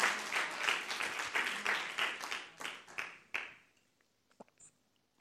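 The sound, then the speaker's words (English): A crowd claps for God at a preacher's call, steadily for about three seconds, dense overlapping claps that then thin out and fade, leaving a few scattered faint claps and rustles. “Somebody give God a clap.”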